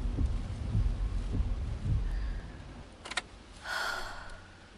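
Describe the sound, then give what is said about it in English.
Muffled storm noise from inside a parked car: deep low rumbling and steady hiss, a couple of sharp crackles, then a rising gust of wind and rain near the end. “We'll just have to wait in the car until the storm passes.”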